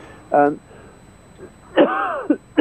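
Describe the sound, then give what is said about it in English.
A short, harsh voiced burst is followed by a longer, strained bout of hacking coughs. The sounds are loud, with a wheezy, groaning edge. “sorry, what an awful cough.”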